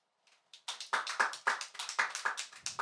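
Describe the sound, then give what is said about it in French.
Audience applause that starts after a brief quiet moment and settles into a steady patter of overlapping, irregular claps, fairly thin and moderately loud, with no talking over it. “Et dans la salle, je ne veux pas demander qui s'est fait au GHB, mais qui se sent en danger dans un bar par applaudissement?”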